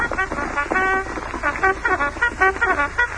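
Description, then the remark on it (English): A bugle plays reveille to wake a camp, a quick series of bright, brassy notes in a rhythmic pattern, fairly loud, over a busy, noisy background. “Reveille. The camp will be awake very soon.”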